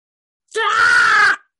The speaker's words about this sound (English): And then … screams.